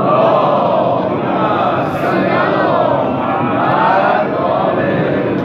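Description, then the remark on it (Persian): A large crowd recites salawat together in unison, a dense, steady wash of many voices lasting several seconds at a loud, even level with slight swells in rhythm. “یه صلواتی من هم بفرمید.”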